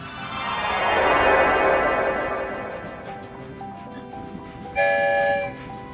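The Story Train rumbles along through the Rainbow Tunnel, its clatter swelling loudly and then fading off, followed by a single short, bright whistle toot near the end. No one speaks.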